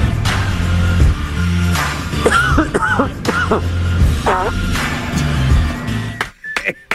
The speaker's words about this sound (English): You know why I believe it? He thought he was off mic. No. And he coughed.